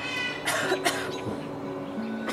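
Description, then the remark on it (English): A raven imitates the cough of people who have a cold: two quick, raspy coughing bursts close together, surrounded by scratchy, squeaky tonal sounds, fairly loud with no talking. “And sometimes he hears people who have a cold.”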